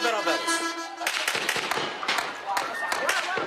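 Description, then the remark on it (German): Shouting voices from a crowd give way to a rapid, irregular string of sharp gunshot cracks that keep popping over the ongoing commotion, as Turkish security forces fire tear gas and live ammunition at a gathering of several hundred people in the Kurdish areas of Turkey. “Tränengas, Schüsse, scharfe Munition.”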